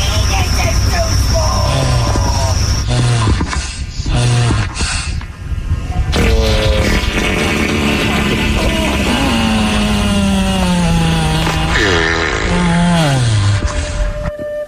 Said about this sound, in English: just a barrage of random sounds ending in a farting turtle.